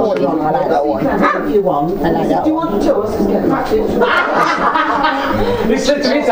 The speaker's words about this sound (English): I honestly didn't think they had the bark. This is a growling, though. Oh, well, hello, you. Is that? I didn't realise, Dad, that they actually had the bark at that age. Oh, yeah. I thought they got the bark much later on.